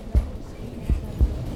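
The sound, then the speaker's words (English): A pregnant mother's muffled heartbeat thuds softly in low, deep beats, a single thump followed by a closer pair, with a faint hiss in the background and no talking. “You can hear my heartbeat, can't you?”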